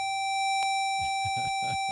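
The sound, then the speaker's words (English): A school district's normal bell sounds as a steady, unbroken electronic tone with bright overtones, held for the whole two seconds. A single click comes early, then low rhythmic thumps pulse underneath. “That's the normal Bell.”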